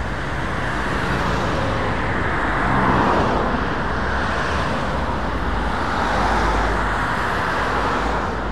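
Steady, loud roar of cars rushing past on the busy four-lane Frankfurter Allee, with the noise swelling twice as vehicles pass by; no voices.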